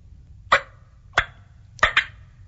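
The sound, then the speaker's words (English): Sharp, short turkey clucks made on a mouth diaphragm call, four close, clear pops spaced apart with the last two in a quick double, over a faint low background hum. “You can throw a cluck in there if you wanted, and that's like this.”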